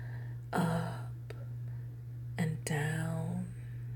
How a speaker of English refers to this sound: Can you hear my breathing in your ear? Feel my lips so close.